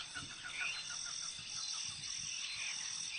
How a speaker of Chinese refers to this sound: 一大清早，天空渐渐明亮了起来，鸟儿们此起彼落的叫声，那是森林里才有的天然闹钟。这些声音唤醒了森林的动物与植物们。